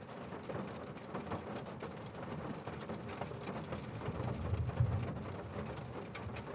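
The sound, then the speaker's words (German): Steady rain patters on the roof of a bus in a dense, continuous wash of drops, with a low rumble underneath that swells slightly near the end. No voices, just the even hiss of rainfall. “Das sanfte Geräusch des Regens gegen das Dach schafft einen beruhigenden Klang.”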